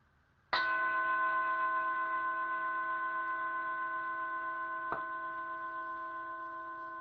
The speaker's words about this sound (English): And I'm going to just invite you to hear the sound of the bell and allow it to draw you inward.